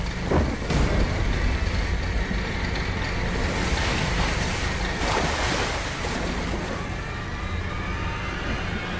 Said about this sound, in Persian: تبدیل به سیل ناگهانی میشه.